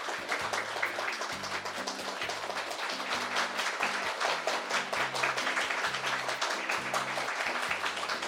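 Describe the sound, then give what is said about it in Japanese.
An audience in Kimitsu, Japan, applauds steadily for over eight seconds at a concert, a dense, even crackle of many hands for members of the Chiba Symphony Orchestra, while a low stepping bass melody plays faintly beneath it. “どうぞ今一度大きな拍手をお送りいただきたいと思います。”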